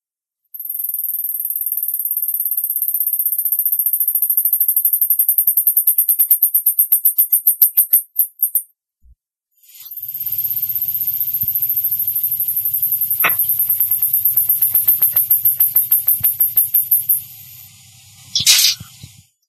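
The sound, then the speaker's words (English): Two mice trade a duet of very high-pitched, rapid whistling trills in two long bouts separated by a short pause, the first mouse starting the duet and the second finishing it, with a faint low hum beneath the second bout. “The singing is a very high-pitched whistle.”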